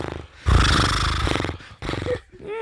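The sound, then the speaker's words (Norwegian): A person imitates a horse with a loud, raspy, quavering whinny lasting about a second, then a shorter second burst, followed by a faint snorting tail. “Der kom hesten.”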